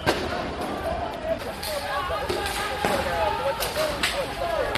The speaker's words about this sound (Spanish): Son manifestaciones muy tensas de esta misma noche que han recorrido varias ciudades, por supuesto la capital Beirut del país, y han acabado con un policía fallecido, más de 300 heridos,